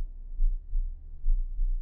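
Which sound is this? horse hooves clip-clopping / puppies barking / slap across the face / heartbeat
heartbeat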